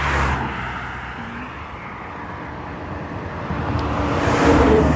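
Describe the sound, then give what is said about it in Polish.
Steady roadside traffic rumbles throughout, with a car swishing past early on and another vehicle swelling louder as it passes near the end. No one speaks. “Tu jest ruch.”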